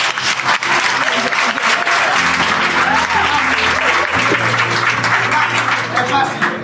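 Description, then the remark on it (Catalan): A crowd applauds a group of school pupils steadily for several seconds, dense overlapping claps forming a loud, continuous wash of sound with a few voices faintly mixed in underneath. “Volem donar-vos un fort aplaudiment, bueno, volem donar un fort aplaudiment a aquests alumnes i, bueno, que estan participant en el podcast.”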